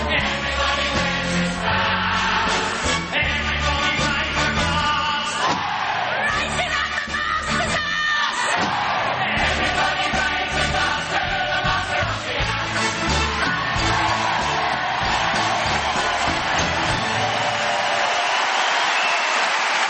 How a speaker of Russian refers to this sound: Такие аплодисменты прям жалко уводить. Да-да-да. Ну, дальше там идет уже следующий номер, потому что это запись спектакля оригинальная. Это Original Cast, лондонская постановка.